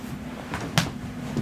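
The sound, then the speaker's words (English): A single sharp, fleshy slap on a dad-bod belly, with a couple of softer pats before and after it, heard alone over a low steady hum. “Just give it a little slap.”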